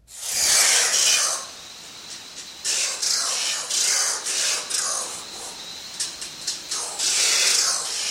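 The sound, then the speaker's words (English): Harsh, grating screeches of a South American oilbird echolocating, recorded in Trinidad and Tobago: a run of raspy hissing bursts, some long and loud, others short and clustered, with no talking. “This is the oil bird with kind of grating call.”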